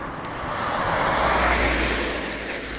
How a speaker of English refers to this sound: That was a car.